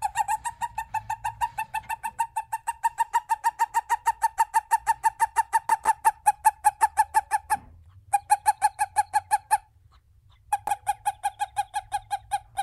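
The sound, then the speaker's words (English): A male toad's release chirp: a rapid, steady train of buzzy pulses, fairly loud, repeating in three long bursts separated by brief pauses, with no other sounds. “male toads have a special chirp that they use to signal other males”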